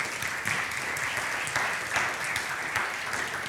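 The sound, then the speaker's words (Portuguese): An audience applauds to the Lord for reaching 30 Christmas baskets for donation to Casa das Boas Novas, a steady wash of many hands clapping at an even level throughout, with no voices standing out above it. “Pode aplaudir ao Senhor por isso.”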